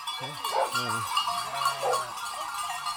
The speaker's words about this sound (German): Oberhalb von Partenkirchen treiben die Männer der Weidegenossenschaft rund 450 Bergschafe auf die sogenannte Vorweide an den südlichen Ausläufern des Wank, dem Partenkirchner Hausberg.